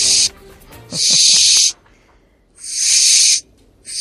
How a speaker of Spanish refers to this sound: Es la lechuza de campanario.